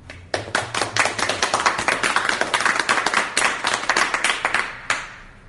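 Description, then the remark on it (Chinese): A church audience breaks into steady applause to welcome a woman coming up to give a testimony, many hands clapping in a dense, bright patter that holds for several seconds before tapering off, with no one speaking over it. “我们鼓掌欢迎她。”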